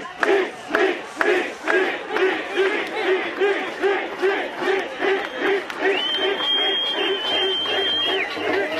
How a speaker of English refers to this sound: The steel twisted and popped and finally was broken, as the crowd chanted the name of the Korean farmer who died on the barricades on September 10th.